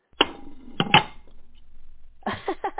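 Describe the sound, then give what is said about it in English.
A cookie jar lid clinks shut in a few sharp ceramic knocks, followed after a short pause by a quick rattling cluster of clatters as it settles into place. “I actually uploaded a cookie jar lid sound effect, and that was to really bring that home.”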